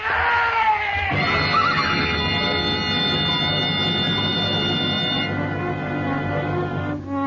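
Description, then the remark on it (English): A horse lets out a loud, shrill, drawn-out whinny that holds for several seconds as it stumbles and falls on a narrow trail, with a strained, almost scream-like tone and no voices. “The horse stumbled.”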